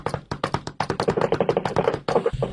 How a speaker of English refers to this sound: I recorded the hail hitting the hood and the top of the Silverado pickup truck I'm driving from Johnny Landoff Chevrolet. Really? Yeah, here's the sound of the hail. This is how bad it was.